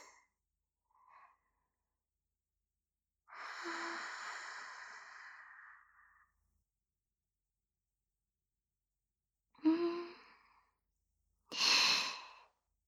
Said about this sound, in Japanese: 寒い？寒くない？うん。じゃあ、吐息で温めてあげる。